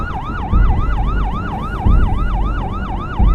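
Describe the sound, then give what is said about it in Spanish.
A loud ambulance siren wails in a fast, repeating yelp pattern, with a deep engine rumble underneath that swells in occasional bursts, as the ambulance sets out to pick up a woman who has just given birth. “Nosotros inmediatamente salimos en la ambulancia a buscar a la señora.”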